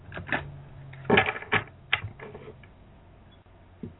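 Playing cards being shuffled, a few quick bursts of rapid, crisp flicking and riffling separated by short pauses, with no one talking.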